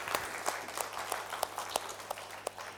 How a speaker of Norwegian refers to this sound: Ska vi en applaus för Jesus?